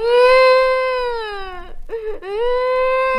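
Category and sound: human body sound, girl crying loudly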